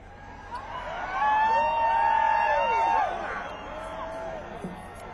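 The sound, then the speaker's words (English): A concert audience sitting in the rain cheers and whoops as the performer takes off a vest, with a few sharp whistles rising over the crowd noise, swelling for a couple of seconds and then settling into a steady murmur. “For those of you who are on the radio, the cheering is not because I'm really stripping.”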